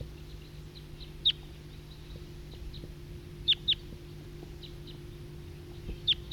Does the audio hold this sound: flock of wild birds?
yes